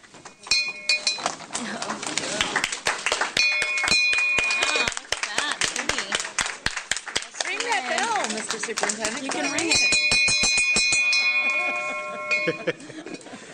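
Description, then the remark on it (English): A golden award bell is shaken rapidly and loudly by hand, its bright metallic clangs ringing in quick bursts for several seconds, with brief pauses between rounds of ringing. “With all due respect to Virginia Marshall, I rang the bell this time.”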